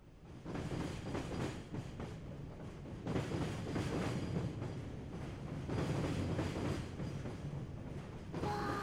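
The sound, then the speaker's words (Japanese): A train rumbles steadily along the rails, a continuous loud low roar with rhythmic clatter, ending with a brief higher tone near the end. “はい、電車に乗るんですね。行ってみましょう。”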